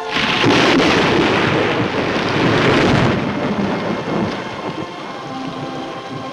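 A loud rumble of thunder from a lightning bolt rolls over steady heavy rain, swelling for a few seconds and then easing off while the downpour continues to hiss. No voices.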